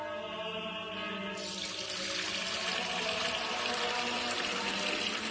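Fuente Umbría spring water pours steadily into a container, poured by a priest to replace holy water, a continuous rushing stream that brightens and grows fuller after a second or so as the vessel fills, fairly loud with no voices.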